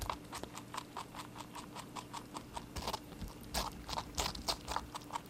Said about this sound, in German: Das ist ein Kaninchen, das eine Wassermelone isst. Also ich find's ein super Geräusch, ganz ehrlich.